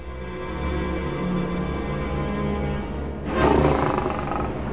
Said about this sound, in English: Behind bars, a lion roars.